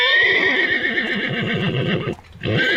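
A horse neighs loudly, a long quavering whinny that breaks off briefly near the end before a final snort-like burst; no one speaks.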